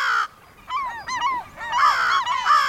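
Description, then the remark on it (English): A crow caws loudly while digging in the sand, a run of about five harsh, raspy calls in quick succession with brief gaps between them, and no voices present. “The crow was making a big fuss, digging in the sand for some hidden treasure.”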